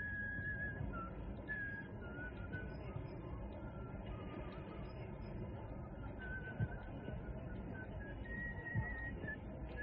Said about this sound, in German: Der … steckt die Hände in die Hosensäcke und fängt an zu pfeifen.